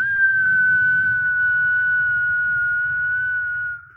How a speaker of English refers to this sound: the Nerf Vortex Howler football that whistles when you throw it